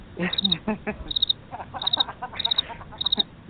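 Crickets chirp in short, high trilled bursts, about five evenly spaced pulses repeating steadily, with people talking faintly underneath.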